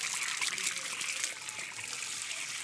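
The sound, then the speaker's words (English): A steady pour of water splashes and trickles onto plants, watering them before they are planted in a flower bed, a continuous bright hiss of running liquid with faint spatters, lasting a few seconds without pause. “you need to water all the plants before they go in. There we go, nice and wet.”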